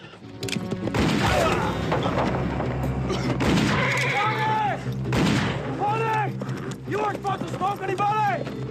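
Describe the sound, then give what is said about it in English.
Several loud, sharp gunshots, roughly three heavy blasts spread across a few seconds, ring out as the regulators and men from a shack shoot at each other, amid a chaotic mix of shouting voices and high, wavering cries. “Billy shoots one of the men, who falls to the ground.”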